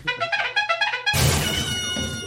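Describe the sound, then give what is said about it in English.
A voice imitates crackling when asked for some crackle: a quick run of about six pitched, buzzy pulses, then roughly a second of loud, raspy, sputtering hiss. No words are spoken. “can you give me some crackle?”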